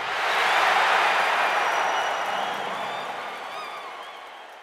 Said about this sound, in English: Crowd goes wild. Crowd goes wild. Woo!